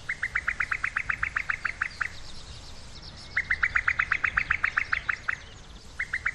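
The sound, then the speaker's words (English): A female cuckoo's bubbling, chuckling call: quick runs of about a dozen liquid notes, each burst lasting a couple of seconds and repeating, clear over a faint outdoor hush. “They themselves don't cuckoo, but rather utter a bizarre bubbling, chuckling noise, especially when laying their eggs.”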